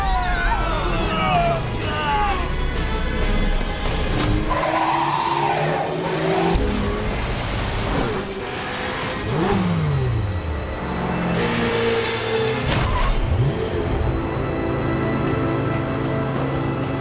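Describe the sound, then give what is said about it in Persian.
A car engine revs hard aboard a ship in the middle of the ocean, its pitch repeatedly climbing and dropping, with brief tire squeals and skids cutting through a dense, continuous roar and faint background voices. “اون ماشین رو خاموشش کن و بیا بیرون.”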